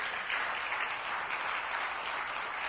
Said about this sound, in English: For those of you who are guests here today, can we give our guests a round of applause?